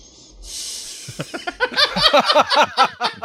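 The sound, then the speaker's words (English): Sylvester Stallone makes a long, hissy nasal sniff through a plugged-up nose, followed by a rapid run of squeaky, whistling breath sounds sweeping up and down, with no talking. “Here's Sylvester Stallone doing a long sniff and a whistle”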